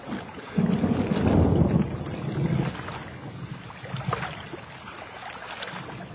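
Gusty storm wind buffets the microphone around a small rowing boat being rowed into a storm, with low rumbling surges and splashes of water; the roar swells early then settles into a steady blustery rush.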